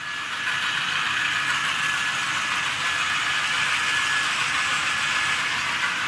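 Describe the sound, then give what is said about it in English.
Three small battery-powered robotic cars, about 16 inches long and 8 inches wide, moved by a desktop computer over Wi-Fi, whir steadily as they drive around a circle drawn on the floor of a lab on the UW-Milwaukee campus, a continuous, even motor hum and hiss at moderate loudness with no voices. “using a desktop computer and Wi-Fi to move three battery-powered robotic cars about 16 inches long and 8 inches wide around a circle drawn on the floor.”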